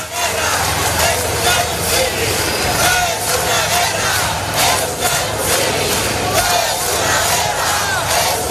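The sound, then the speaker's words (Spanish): A large protest crowd in Spain chants slogans in unison at a Saturday demonstration supporting the Palestinian people and demanding a break in diplomatic relations with Israel, a loud, continuous roar of many voices with a steady rhythmic pulse running through the whole stretch. “Vamos a ver qué ha ocurrido en España, donde hubo enormes movilizaciones este sábado en apoyo al pueblo palestino y para exigir la ruptura de relaciones diplomáticas con Israel.”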